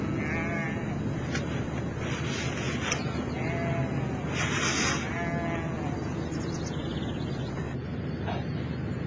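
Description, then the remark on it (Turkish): A flock of sheep bleats repeatedly, with several wavering calls overlapping at irregular intervals over a constant rushing background noise. “Senin sürünü mü alsınlar yoksa kadınlarınkini mi? Sürüyü götürün.”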